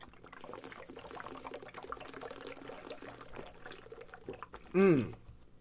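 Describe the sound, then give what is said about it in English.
Someone gulps down a drink of water, with a few seconds of steady sloshing, swallowing sounds that end in one loud, brief gulp or satisfied exhale. “And after this guzzle of water, I'm going to tell you why.”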